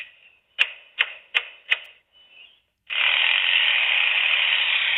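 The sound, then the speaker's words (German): A starling mimics the sounds of a construction site. A thin tone is broken by four sharp, evenly spaced rasping strokes imitating a saw, then a loud, steady, high whine imitating a drill. “Verstehst du, der macht eine Säge und einen Bohrer nach.”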